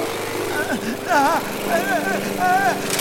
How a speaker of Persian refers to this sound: این ماشین چمنزنی کارایش هم نداره.